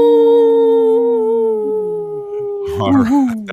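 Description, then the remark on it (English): Several voices let out long, sustained wolf-like howls together, their pitch sliding slowly downward before breaking into ragged, wavering yelps near the end. People are imitating wolves, loudly. “This portion of the show is brought to you by Howling for Wolves, protecting wolves and future generations. Howl! Howl!”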